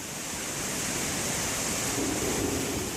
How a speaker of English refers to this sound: The basin used to overflow all of the time, like almost any time it rained. MSD has a video on their YouTube page of an overflow in 2015. The water absolutely gushes out of the gates. Dirty, nasty, untreated sewage water.